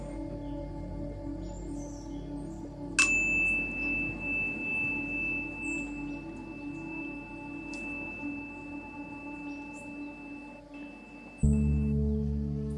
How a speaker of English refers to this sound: In a few moments, I will ring the bell to begin today's session.